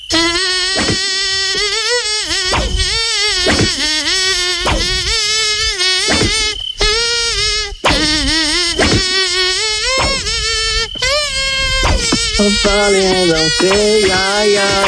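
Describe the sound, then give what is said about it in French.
A loud, nasal mosquito-like whine buzzes almost continuously for the whole stretch, its pitch wavering and swooping in short repeated pulses, insistent. “Bon, on en a un, nous, dans le studio. Le moustique nostalgie est plutôt gentil, lui.”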